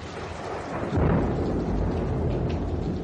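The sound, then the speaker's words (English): A deep, rumbling roll of thunder swells loudly about a second in and keeps growling, layered over the steady hiss of heavy rain in a wild storm. “I ran into the wild storm like a coward.”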